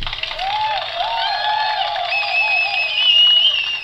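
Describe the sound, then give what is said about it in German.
A steady burst of crowd applause and cheering fills the few seconds, with whistles and shouting voices rising over dense clapping and no one speaking. “Wer es bis hierhin geschafft hat, ja, wir sind hat wieder, Applaus verdient.”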